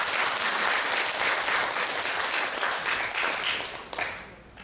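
An audience breaks into steady, sustained applause, a dense wash of many hands clapping at once, holding loud for several seconds before tapering off toward the end.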